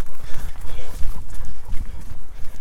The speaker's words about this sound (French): C'est marrant parce que d'habitude ici il y a des vaches et là il doit y avoir une bonne centaine de moutons.